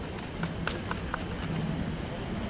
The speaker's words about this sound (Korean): 인권실천시민연대의 사무국장으로 일하고 계신 오창익 활동가님을 큰 박수로 모시겠습니다.